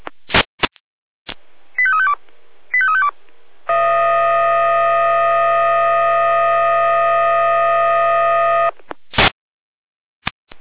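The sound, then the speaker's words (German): Fire brigade radio alerting tones from the Jena dispatch centre: radio squelch bursts, two quick descending sequences of beeping tones, then a long, loud, steady multi-pitched alert tone lasting about five seconds, followed by more squelch clicks. “Jena mit Alarmierung.”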